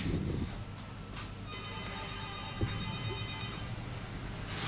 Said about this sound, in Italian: Guarda, vediamo se questa telefonata è per noi, se no, appunto, magari in conclusione, se vuoi, insomma, ci avviciniamo. Prova a prendere la telefonata.